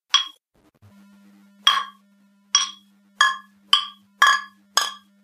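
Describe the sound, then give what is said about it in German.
Glasses of Tiski beer clink together again and again in a toast, about seven sharp, ringing knocks, speeding up toward the end, with a low steady hum underneath and no talking. “Prost!”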